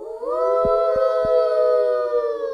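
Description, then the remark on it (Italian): A single long wolf howl rises in pitch, then holds a loud, steady note for over two seconds, with three soft low thumps underneath near the start. “Per costruire una casa forte e sicura, che resista al vento, alla pioggia, alla neve, tin, tin, tin, tin, tin, e al soffio del lupo.”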